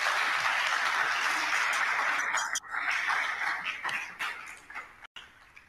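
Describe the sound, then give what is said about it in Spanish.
Steady applause from a group in Zacatecas, a dense crackle of many hands clapping that holds strong for a couple of seconds, then thins and fades unevenly with brief breaks. No one speaks. “Te mandamos un abrazo fuerte desde Zacatecas y un aplauso caluroso de nuestros comentarios.”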